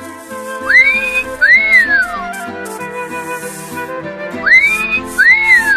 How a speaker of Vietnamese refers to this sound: Có một điều, anh huýt sáo to hơn, vui vẻ hơn trong khi bào gỗ.